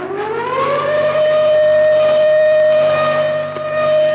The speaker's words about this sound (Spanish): Instantáneamente hicieron sonar los aparatos de alarma.